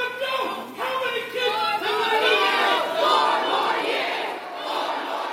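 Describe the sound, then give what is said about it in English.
A large crowd at a Biden campaign event chants "four more years" loudly in rhythmic unison, its many voices swelling and overlapping, drowning out a single protester shouting at the start. “So we heard a protester there, and then the crowd immediately drowning them out with chants of 4 more years.”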